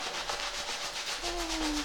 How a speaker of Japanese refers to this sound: シャンプーは頭皮をマッサージするようにやるといいらしいんですけど、こんな感じですかね。どうですか、私のシャンプー気持ちいいですかね。